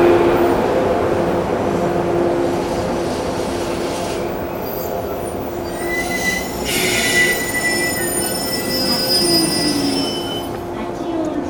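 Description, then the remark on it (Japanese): A train arriving at Hachioji station rumbles steadily as its wheels squeal in thin, sustained high-pitched tones, with brief brighter screeches partway through, the sound staying loud and continuous throughout. “ご乗車ありがとうございました。八王子に到着です。”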